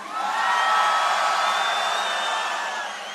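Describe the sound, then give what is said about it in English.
A large festival crowd of first-timers at Tomorrowland screams together in a sustained, loud roar of many high-pitched voices, swelling quickly and holding steady for about three seconds before easing slightly. “Okay, all virgins of Tomorrowland, let me hear you scream.”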